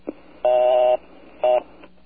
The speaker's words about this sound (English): What they used to do back in ye olden days, was they would take the old dial tone and break it up, and that would be your busy signal. For example, the old dial tone was a buzz, so this was your busy signal.